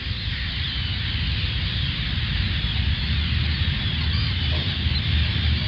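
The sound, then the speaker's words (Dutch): A dense, continuous chorus of many screeching gulls fills the scene outdoors in the polder at Lelystad, Netherlands, by the shipyard building a replica of the VOC ship Batavia, steady and fairly loud, with a low rumble of wind underneath and no voices. “Heel veel krijzende meeuwen, een ver uitzicht, want we zitten in de polder.”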